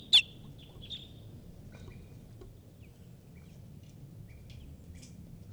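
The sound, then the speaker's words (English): A wild bird gives sharp, high alarm calls, loudest in a quick burst at the start, then fainter scattered chirps over a steady low outdoor rumble. “And a wild bird is here giving alarm calls.”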